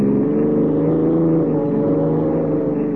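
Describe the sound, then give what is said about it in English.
A police car's engine roars steadily at high speed, doing 70, a loud, continuous droning hum that holds a constant pitch throughout, with no voices. “Sure, this cop's buggy can travel.”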